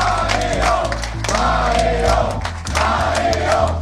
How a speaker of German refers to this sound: Auf der Wahlparty der Blauen steht der Spitzenkandidat Mario Kunasek strahlend in der Menge. Neben ihm Parteichef Herbert Kickl. Die Menge jubelt.